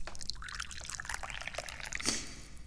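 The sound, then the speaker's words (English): Tea pours steadily into a cup, a continuous bubbling, splashing trickle that rises slightly in brightness near the end, with no talking. “Well, because I'm pouring some tea.”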